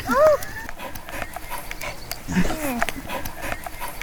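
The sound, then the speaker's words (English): A dog pants in quick, steady breaths after retrieving something, with people's voices talking over and around the panting throughout. “It's a reward for his gallant retrieval, you know?”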